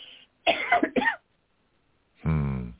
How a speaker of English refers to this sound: I mean, when I like talk I say, a lot, I get a cough because I have all those things.